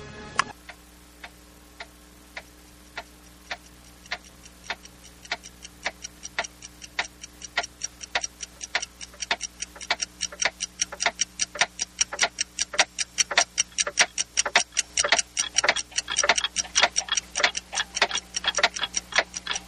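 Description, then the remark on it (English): Many clocks tick together, starting as a sparse, steady beat and building into a dense, overlapping clatter of sharp ticks, fairly loud, with a faint hum underneath and no voices. “Of course, you always have the the clocks.”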